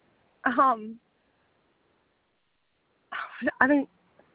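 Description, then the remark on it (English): Two loose dogs, crossing a road back and forth in an industrial area near a vet, give two short, whiny vocalizations with sliding pitch, one near the start and a louder double cry a few seconds later, separated by quiet; no talking. “And there's just these two dogs that are loose.”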